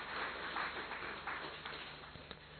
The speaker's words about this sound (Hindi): ताली बजाई, लेकिन आप लोगों ने जोर से नहीं बजाई।